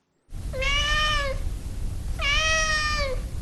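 A cat meows twice, each call a drawn-out, harmonic-rich tone holding steady before dipping at the end, over a low rumbling background hum with no talking.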